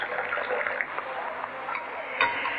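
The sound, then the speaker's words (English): Tea is poured out of a cup in a steady splashing stream for a couple of seconds, leaving the tea leaves behind, with a faint clink near the end as the cup tips. “Now we pour out the tea and the leaves remain.”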